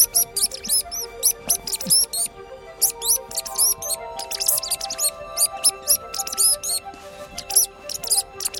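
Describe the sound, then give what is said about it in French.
A wagtail sings in quick bursts of thin, high-pitched chirps and twittering notes, repeated almost continuously over a low, steady background hum, with no one talking. “Et on l'appelle aussi la hoche-queue parce que pour pouvoir attraper une mouche, il faut être acrobate.”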